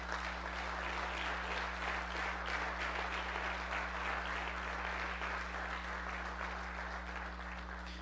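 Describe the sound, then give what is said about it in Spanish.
An audience at a church service applauds God steadily, a dense wash of many hands clapping at a constant level for the whole stretch, with no voices standing out over a low steady hum. “Dele un aplauso a Dios.”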